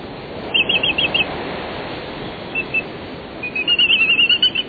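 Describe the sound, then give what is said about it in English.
Black-footed albatross calls, from birds flying by the thousands near the edge of the continental shelf, a couple of dozen miles off the Pacific coast: two bursts of rapid, high, squeaky chirps, one early and a longer one near the end, over a steady rushing background noise. No one speaks. “These graceful giants are black-footed albatrosses, flying by the thousands near the edge of the continental shelf.”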